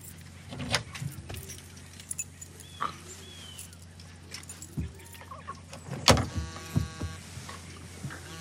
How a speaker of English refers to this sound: uses a rag to wipe down the steering wheel, ignition, and keys.